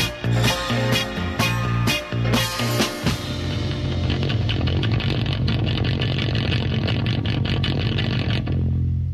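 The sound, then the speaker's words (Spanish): A Harley-Davidson motorcycle engine roars, with several sharp revving bursts in the first few seconds before settling into a loud, steady, throbbing rumble that cuts off near the end. “Y rugía ahí esa moto conducida, esa Harley”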